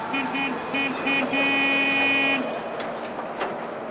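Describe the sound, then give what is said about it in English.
A supply truck arriving in the compound honks three short times, then holds one long steady blast before falling silent, loud over a rumbling background of engine and outdoor noise. “Attention, supply truck now in the compound.”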